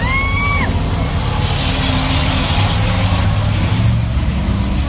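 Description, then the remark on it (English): Racing trucks' engines roar loudly and continuously for the whole stretch as they race around a track, two wide for second place out of turn four, a dense, rumbling drone with a brief high squeal at the very start and no talking. “Great race in there for second place. Going two wide out of quarter four.”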